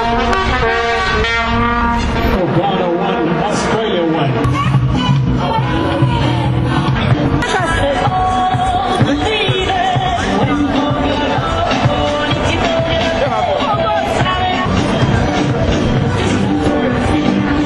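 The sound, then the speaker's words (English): A loud, continuous blare of many vuvuzela horns droning together in overlapping buzzy tones, with a crowd cheering and roaring underneath, sustained without a break, greeting Ghana's equalizing goal during the game. “Ghana's equalizer attracted a vuvuzela cheer, followed by halftime entertainment.”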